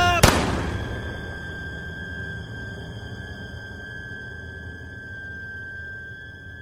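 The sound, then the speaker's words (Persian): A single sharp gunshot from a gun held to the shooter's own temple cracks out at the start, then a high, steady ringing tone hangs on for several seconds over a low, muffled rumble, fading only slightly. “تفنگ آوردم بالا، گذاشتم رو شقیقه خودم و با همه وجود فریاد کشیدم و ماشه رو زدم.”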